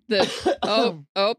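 A person coughs and clears their throat up close, three quick, loud, rough bursts with a short gap before the last one, and no speech around them.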